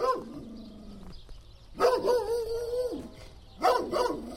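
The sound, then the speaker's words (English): A dog barks in three drawn-out, whining calls, the first sliding downward, the second held longer, the third starting sharply at the end; no one talks. “I'm not a fan of being attacked. We definitely all have dog stories, straight up.”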